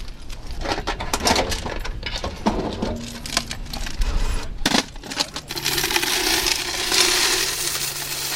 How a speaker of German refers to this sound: Die Sicherheit, die fängt im Kantonsspital St. Gallen schon vor dem Eingang an, auf dem Parkplatz aussen. Zwei Sicherheitsleute in Uniform leeren die Kasse vom Parkgeldautomat.